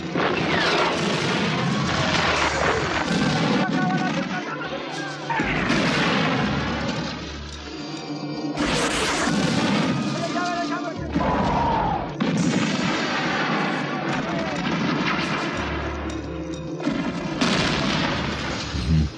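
Three tanks lay waste to a village in Afghanistan in 1981, during the Russian invasion: heavy tank cannon blasts and explosions boom again and again in a loud, dense barrage, forming a continuous chaotic roar of gunfire and crashing impacts with no clear pauses.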